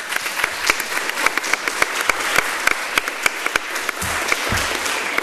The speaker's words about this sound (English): See, they may not agree, but at least they applaud. Very polite. That's the liberal elite for you. They're very polite.